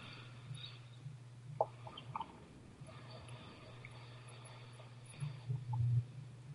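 Boiling water drips and trickles onto a plant, killing it, in a few soft, scattered wet splats and squishes, faint, over a steady low electrical hum, with no talking. A leaf of the plant sits between electrodes that monitor its electrical activity during a lab experiment.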